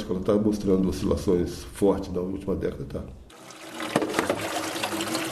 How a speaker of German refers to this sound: Neben ihm säubern die Frauen des Dorfes unter dem Wasserstrahl die Fische, die die Männer am Morgen gebracht haben.